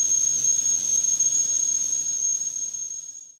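whistling tea kettle

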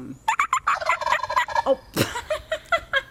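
turkeys gobbling

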